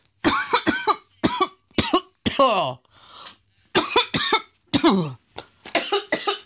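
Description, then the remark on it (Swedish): A loud coughing fit: repeated harsh coughs in quick bursts, with a brief raspy throat-clearing pause midway before the coughing resumes. “Var en liten hostattack här mitt i snacket om sjukdomar.”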